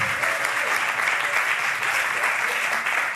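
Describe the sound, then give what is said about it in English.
Steady, dense applause from a crowd at a teach-in, a continuous wash of many hands clapping at even loudness throughout, with no voices standing out. “And let's give those folks a huge round of applause.”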